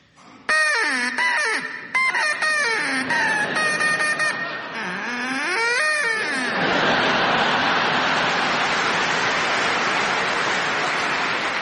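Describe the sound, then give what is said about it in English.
A man imitates his duck with a string of loud, nasal quacks that swoop up and down in pitch for several seconds, then the audience breaks into sustained laughter and applause. “Can we please hear your duck”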